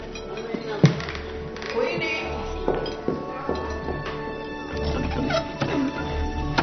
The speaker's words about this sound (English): Stop banging that fork. It's used for eating, not for playing with.